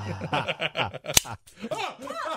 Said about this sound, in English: All right, he's resetting the trap now. I have three more over here. Had a misfire.